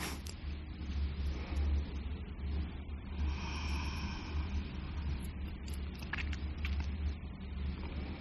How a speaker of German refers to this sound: Ein paar Geräusche von der Stadt.